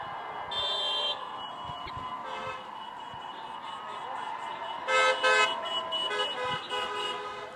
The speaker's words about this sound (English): Community members beeping their horns, showing their support for the protests.